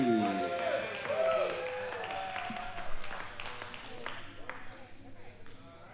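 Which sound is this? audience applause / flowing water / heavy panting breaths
audience applause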